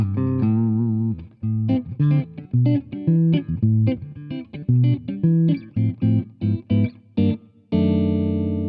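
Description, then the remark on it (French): Clean electric guitar plays bossa nova through the clean channel of a Michelangelo Basio 250M amplifier head, with short syncopated chord stabs in a steady lilting rhythm, then lets a final chord ring out. Clear and moderately loud, with no voices. “J'aurais cru qu'on joue de la bossa nova un jour sur une tête Michelangelo Basio, c'est absolument fantastique.”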